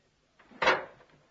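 A folding table is opened out: a short wooden scrape, then a single solid clunk as it locks into place, with a brief fading rattle and no voices.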